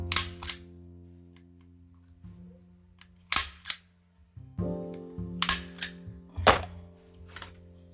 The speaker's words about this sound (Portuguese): Últimos grampinhos. Será que tá ficando horrível esse áudio porque eu tô martelando? Provavelmente.